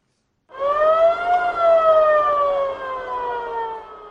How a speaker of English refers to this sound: This ambulance rushes with people said to have been wounded in armed confrontations between Cameroon's military and armed groups from the Central African Republic on the border of the two Central African states.